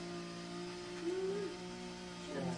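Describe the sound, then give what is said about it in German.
A construction crane's motor drones steadily with a humming, tonal whine; midway the pitch briefly swells upward, and the engine note rises again at the very end. “Da ist ein Kran. Und ein lautes Geräusch im Moment.”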